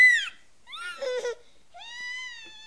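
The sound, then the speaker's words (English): A child screams in three shrill, high-pitched bursts while being washed with a washcloth: a short cry, a wavering wail, then a long, steady sustained scream, with no talking in between. “There's no reason for you to scream like that.”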